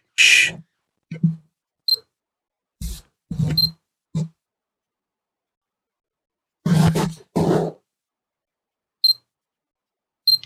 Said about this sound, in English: Just make sure it's on automatic. Here we go. The only trouble is you need to turn off the beep every time it gets the autofocus.